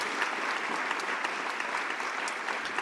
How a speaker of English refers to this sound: Yay! I should insert claps right now.